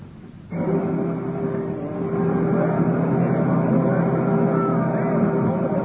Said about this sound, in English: What a lovely boat.